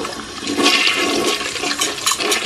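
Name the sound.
toilet flushing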